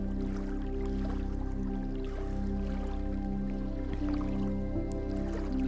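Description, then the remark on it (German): Steady babbling river water with occasional small drips and splashes, flowing continuously at an even level over a low, sustained droning hum, with no one speaking. “Kannst du sein Rauschen oder Plätschern hören?”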